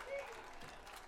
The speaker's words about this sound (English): Thanks for the clapping. I even heard a few whoops. Folks that are from, you know, musically knowledgeable towns know that a whoop, that's worth about 19 claps. Every one whoop, 19 claps.